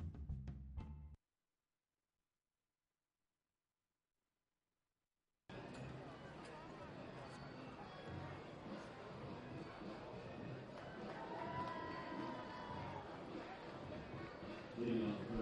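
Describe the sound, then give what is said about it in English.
A brief burst of sound gives way to several seconds of silence, then a steady, dense murmur of a Thursday night baseball crowd at Jackie Robinson Ballpark in Daytona, many voices blending into an even wash of chatter. “nice Thursday night crowd on hand in Daytona at Jackie Robinson Ballpark.”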